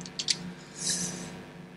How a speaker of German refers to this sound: Ich muss hier langsam blättern, sonst zerreiße ich mir wieder das Blatt. Das wäre nicht gut.